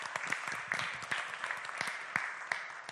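An audience gives a speaker a round of applause, clapping steadily for several seconds, many hands at once in a dense, crisp patter with a few sharper claps standing out. No one speaks over it.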